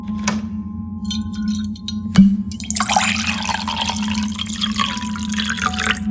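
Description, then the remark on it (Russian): A sharp click, then liquid from a small bottle taken from a minibar splashes and gurgles into a glass for several seconds, a bright, steady trickle over a low constant hum. “Потом открыл мини-бар и плеснул стакан из какой-то бутылочки.”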